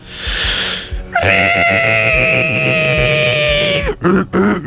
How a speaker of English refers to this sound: That's your pig squeal of the week. Pig squeal of the week.